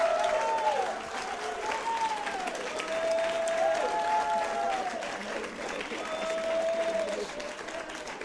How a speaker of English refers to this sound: How many of you are happy about the Holy Spirit? Wie viele von euch sind glücklich über den Heiligen Geist? Clap your hands for the Holy Ghost. Applaudier doch mal dem Heiligen Geist.